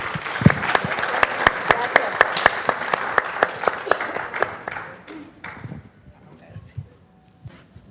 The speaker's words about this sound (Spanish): Un aplauso les pido, por favor.